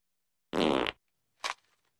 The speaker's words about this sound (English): This is like a seismograph. It's like a little fart. So silver basically farted.